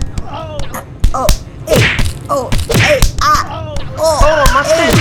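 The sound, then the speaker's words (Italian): A rapid flurry of sharp punches and heavy thuds lands one after another in an irregular, fast rhythm, loud, mixed with pained grunts and exclamations; someone is being punched inside a vehicle while another person drives. “Ok, adesso gli do un triplo salto mortale con pugno all'inculo, vai.”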